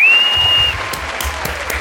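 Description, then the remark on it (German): A short applause sound effect played in: a burst of crowd applause, dense clapping with a few sharper claps standing out, opening with a brief high steady whistle that fades after a moment. “und an der Stelle kannst du jetzt feel free einen Applaus einzuspielen.”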